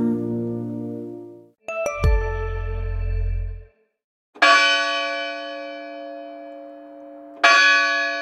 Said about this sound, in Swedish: Nu ringer kyrkklockorna igen för att markera slutet på relationen mellan Pau och norrbaggen Christian Brännhoft.